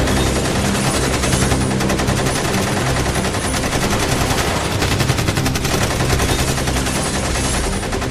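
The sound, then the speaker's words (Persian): Sustained, rapid automatic gunfire rattles on without pause for the whole stretch, a dense, loud barrage of overlapping sharp cracks with no voices. “صد تا 150 تا شاید تیر در کردن، کلی تیر رو در خورده، دو تا ماشین اینور اونور بود، جفتشو پنچر کرده بودن، تو رادیات و موتورهاش زده بودن.”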